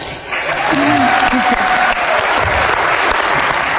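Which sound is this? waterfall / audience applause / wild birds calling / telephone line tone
audience applause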